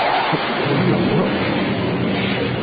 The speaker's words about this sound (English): Oh. What was that? Sounded like a sonic boom or something.